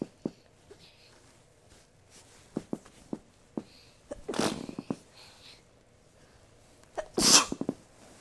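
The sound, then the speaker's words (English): Two sharp sneezes, one around the middle and another near the end, fairly loud, separated by quiet stretches with faint clicks and soft movement sounds. “Oh, I got the sneezes. I got the sneezes.”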